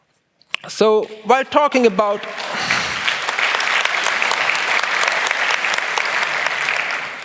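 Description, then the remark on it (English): A short vocal outburst gives way to sustained crowd applause, a dense, steady wash of clapping that carries on loudly for several seconds without fading. “Spare your applause for this one.”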